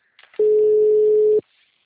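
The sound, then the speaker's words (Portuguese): A single loud telephone ringing tone, one steady electronic beep lasting about a second, heard alone with faint line noise before and after. “Tá chamando. Atende lá o telefone.”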